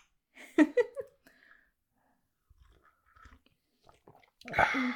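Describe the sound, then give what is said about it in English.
Crunchy chewing of little snack treats served with a cocktail: a loud burst of crunching bites, a stretch of soft, sparse mouth clicks and chomps, then another loud crunch at the end. “Usually we don't do food on the podcast because mouth noises.”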